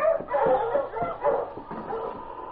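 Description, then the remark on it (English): Several huskies bark and yip excitedly in a dense, overlapping chorus, loud, with repeated sharp barks running continuously throughout, as their sled team sets off on the way to Dawson. “We'll go on now. All right, on you, Huskies!”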